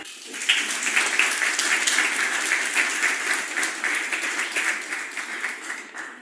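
Steady applause from a crowd, a dense rush of many hands clapping at an even loudness for several seconds before thinning slightly at the end. No one speaks.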